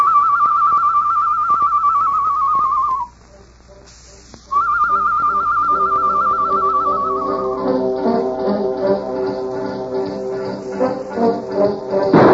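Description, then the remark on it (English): A person whistles an imitation of a bird call: two long, steady, warbling notes at a fairly high pitch, split by a short silence. Lower, rougher tonal sounds follow near the end. “Me make bird call, huh?”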